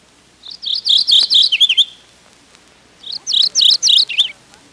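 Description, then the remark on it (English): A mourning warbler sings twice, each song a quick run of bright, rolling two-part chirps ending in a lower burst, clear, with a short pause between songs. “Morning warblers also stay low in underbrush. I interpret their song as cheese, cheese, cheese, for me, for me.”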